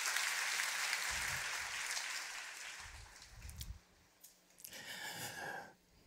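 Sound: audience applauding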